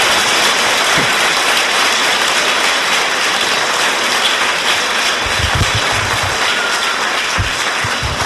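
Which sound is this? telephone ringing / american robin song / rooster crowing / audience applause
audience applause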